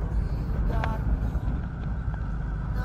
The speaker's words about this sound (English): Okay, really steep stretch of road right here. I'm just creeping along at like 2 miles an hour, and the bus is bouncing all over the place. Going down a very steep grade, so probably just turn the motor off. Even first gear's too fast right now.